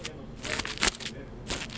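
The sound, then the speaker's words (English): Crisp, crackly crunches of a knife cutting a Chicago thin crust pizza into squares, several bursts in quick succession with sharp, bright edges, the loudest near the middle, over a low background hum. “Yes, we're going to cut this in squares, but and you can hear the crunch.”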